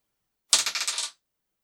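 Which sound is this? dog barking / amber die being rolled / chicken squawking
amber die being rolled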